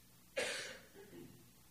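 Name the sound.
coughing and throat clearing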